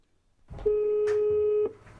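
A single steady telephone line tone at the start of a call to the 113 emergency number, a flat mid-pitched beep with faint harmonics, over low background rumble and soft clicks.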